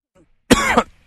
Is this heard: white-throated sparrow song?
no